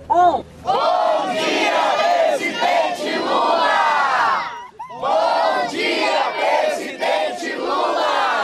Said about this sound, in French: Il est 9h du matin et c'est le moment de crier un bonjour président Lula.